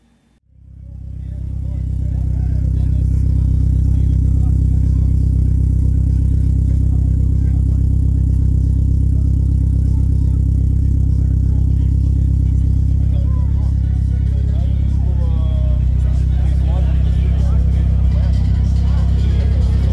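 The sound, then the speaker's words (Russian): A Nissan sports car engine rumbles loudly, a deep, sustained roar that starts abruptly and holds steady with slight revving for the full stretch. “Как всякий горячий Nissan, автомобиль хорош в повседневной езде, но очень ценится дерзкими ребятами для светофорных гонок, дрифта, тюнинга.”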